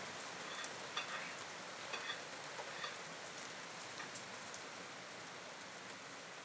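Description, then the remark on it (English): Steady, even rain from a storm outside hisses throughout, with scattered drops pattering over a soft wash. Nobody speaks; the downpour stays at a constant, fairly quiet level. “There's a good old storm out there.”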